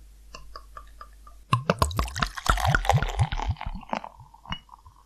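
Tuborg pale pilsner beer (4.9%) glugs and splashes into a glass in quick bursts after a few light clinks, then settles into a soft fizzing of foam with occasional drips.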